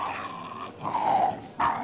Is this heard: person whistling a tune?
no